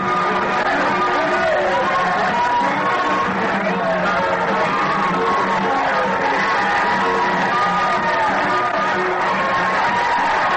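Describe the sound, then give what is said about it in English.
A large crowd in Pine City yells and cheers continuously as passengers get off a train that has just pulled in, a dense wall of overlapping shouts and whoops that stays loud and steady throughout without letting up. “The crowd started yelling.”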